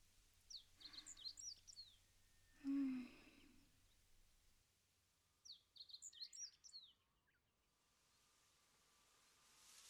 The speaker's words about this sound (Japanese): 目を閉じて、風や水の音、小鳥のさえずりなんかを聞いていると、それだけですごくリラックスする。